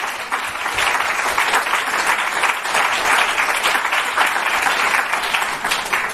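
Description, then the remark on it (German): Steady applause from a group of people, a dense, even wash of many hands clapping at once that holds at a fairly loud level for several seconds without any talking. “Applaus von”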